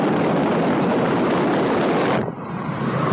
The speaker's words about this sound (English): And, you know, I'm just in the car with some good background noise, just driving home from work.